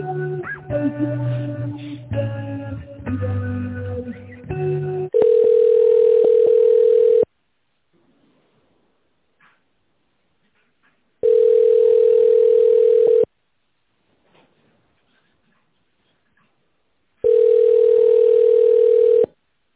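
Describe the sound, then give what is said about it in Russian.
A telephone ringback tone while a call is transferred to an employee's mobile phone: three long, steady electronic beeps separated by several seconds of silence, heard over a phone line after a brief burst of music at the start. “Перевод на сотовый телефон сотрудника.”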